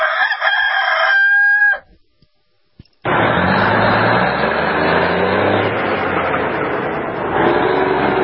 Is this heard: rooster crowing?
yes